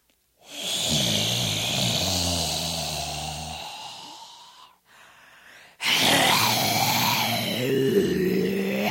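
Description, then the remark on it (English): A voice imitates the heavy breathing of a dragon that breathes purple and pink magic marker: a long, rough, rumbling exhale with a throaty low growl, a brief quieter breath, then another loud, raspy, huffing breath. “It was a magic marker breathing dragon.”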